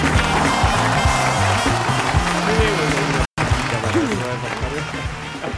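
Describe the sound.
A steady burst of applause, dense and loud, lasting several seconds with a brief cut partway through, while voices talk over it.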